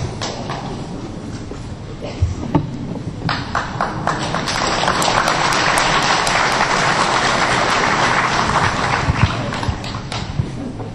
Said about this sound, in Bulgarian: Защо ръкопляскате?